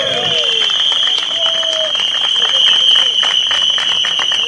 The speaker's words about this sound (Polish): Super, ślicznie, dzięki za przybycie na naszą pikietę. Brawy!